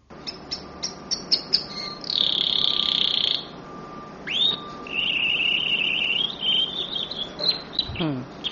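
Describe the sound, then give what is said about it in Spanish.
A canary chirps in quick bright bursts, then a machine answers it with steady high whistled tones in long sustained runs, with a rising swoop between them and a falling swoop at the end. “Aquí la oímos responder con rotundidad a un canario.”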